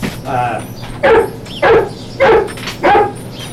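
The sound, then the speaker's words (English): A dog barks five times in a room of a house in a steady rhythm, each bark short, sharp and loud, with brief quiet gaps between them and no talking. “Apparently the rough, rough room.”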